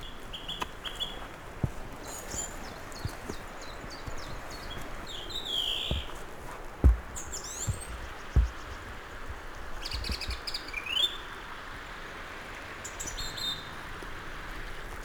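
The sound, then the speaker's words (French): Several birds sing and chirp in a sunny, wild pine forest at the start of the trail to the Barranco des Formicas, their high, scattered calls continuing throughout over a soft outdoor hush, with a couple of brief low thumps. “Tout autour de moi, les oiseaux m'accueillent.”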